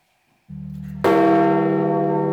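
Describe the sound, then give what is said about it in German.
A deep church bell at St. Peter's Basilica tolls at midday announcing the death of the Pope; a low hum swells first before a loud, resonant strike rings out with rich lingering overtones, heard alone. “Die Glocke im Petersdom verkündet am Mittag den Tod des Papstes.”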